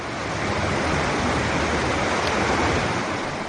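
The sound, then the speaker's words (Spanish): A steady, loud roar of rushing water fills the scene, a dense continuous wash of a swollen river in flood during historic floods after heavy rain, when the Ebro and Arga rivers overflowed in Spain, with no voices and no break in the flow. “Las riadas históricas han provocado situaciones muy complicadas tras los desbordamientos del Ebro y el Arga.”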